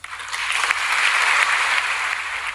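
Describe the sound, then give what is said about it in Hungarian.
Steady, dense applause from a crowd, a bright crackle of many hands clapping at once, holding at an even loudness for a couple of seconds with no voices. “Jár a taps, kedves hallgatók”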